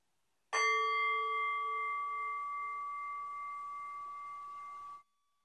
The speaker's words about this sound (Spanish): Para comenzar el ejercicio, escucha el sonido del gong hasta diluirse en el silencio.